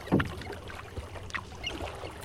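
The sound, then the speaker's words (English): Water sloshes and splashes as a kayak paddle dips in during a water bird survey, with a strong stroke at the start and softer drips and swirls following, quiet throughout. “for her surveys of water birds, one of the most important tools of her trade is a kayak.”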